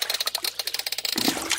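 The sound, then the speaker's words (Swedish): Water sloshes in a fish pond in quick, rhythmic splashes, then turns to a denser, steadier churning toward the end. Fairly loud, with no voices. “Och det skvalpar.”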